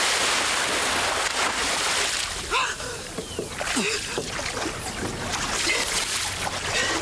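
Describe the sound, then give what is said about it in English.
A heavy splash as a woman is thrown off the end of a dock and plunges into water, followed by churning and lapping amid steady outdoor water noise, with a few brief gasping vocal sounds. “He throws her off the end of the dock.”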